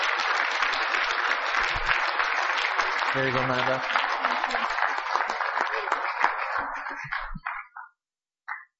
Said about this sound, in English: Where are you? Let's give her a massive clap. Because she did it.